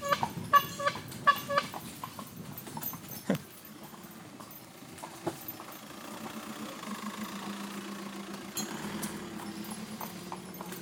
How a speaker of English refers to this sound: riding in a fast car. Indeed. Just a slightly older one than what we'd be used to.